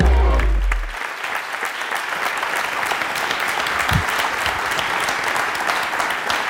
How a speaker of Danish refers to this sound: Ja. Hvor er I gode til at klappe?